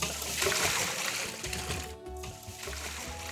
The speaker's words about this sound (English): All right, so these are done. And I'm gonna come over here and I'm gonna pour this water off of them.